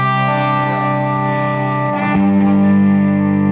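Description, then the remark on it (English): A sustained, droning instrument tone played alone through a Flint reverb and tremolo, washing with reverb and a pulsing tremolo; a brief shift around the middle, then the note swells slightly louder toward the end. “And then it's got the tremolo too.”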